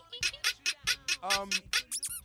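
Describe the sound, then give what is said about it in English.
A comical squeaky sound effect for a shaking bottom: about nine quick, high-pitched squeaks in a rapid bouncy rhythm, fairly loud, ending with a couple of rising chirps. “Can we put in funny sound effects there? Like beautiful. Squeaky little tush shaking.”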